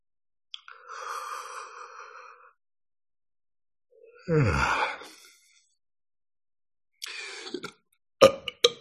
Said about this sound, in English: The belching is also energy release. That's all shamanic stuff too.